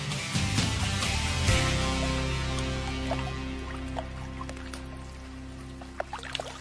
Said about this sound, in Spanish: Y de fondo, el rumor suave de las olas del Báltico.